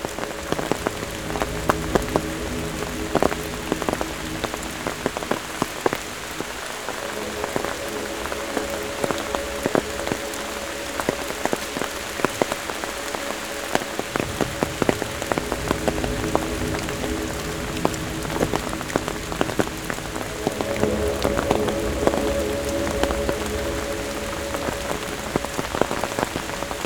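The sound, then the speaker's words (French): Steady rain patters and splashes onto a path at the end of a thunderstorm, countless irregular drops tapping at a constant moderate level for the whole stretch, with no voices and no other sounds breaking through. “Sur le chemin, le clapotis des gouttes d'eau.”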